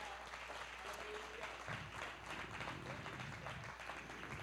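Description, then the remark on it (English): An audience claps its hands to the Lord in thanks, a dense, steady wash of applause that holds evenly throughout, with faint voices mixed in beneath the clapping. “Can we clap our hands to the Lord right now and thank Him?”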